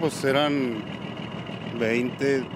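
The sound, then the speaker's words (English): The heavy diesel engine of a John Deere excavator idles at a desert cemetery in Juarez with a steady, low rumbling drone throughout, while a voice speaks in short bursts over it. “Cemetery worker Gerardo Martinez leans against his idling John Deere excavator.”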